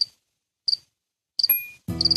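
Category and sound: insect, cricket chirping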